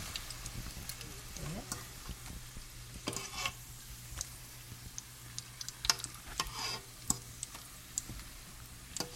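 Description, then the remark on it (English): Pastries (farfalle dolci) fry ten at a time in hot oil until light brown, sizzling steadily: a continuous crackling hiss broken by sharp little pops and spits, with a faint low hum underneath and no talking. “Right after they're done frying?”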